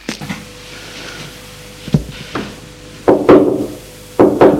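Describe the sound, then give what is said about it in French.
Sharp knocks by a maid on a glass door in the hall of a house, a few scattered raps followed by two louder quick double knocks, crisp, with no voices. “Dans le hall, la bonne va frapper à une porte vitrée.”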